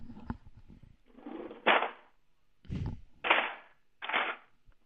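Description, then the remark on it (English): A knives-and-forks cutlery drawer is slid and shut several times, each push ending in a sharp clatter and jingling rattle of knives and forks, with short pauses between bursts and no talking. “Shutting the knives and forks drawer. You nailed it.”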